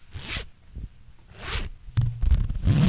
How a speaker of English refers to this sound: No, I don't have a zipper on. That was a fake zipper, too. Okay, do a real one.